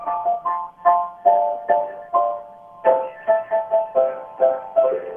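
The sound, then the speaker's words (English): A short melody played on piano, about a dozen and a half bright notes with quick attacks and fading decays, moving in a lilting rhythm that quickens toward the end, with no voices. “No, I can play it on the piano.”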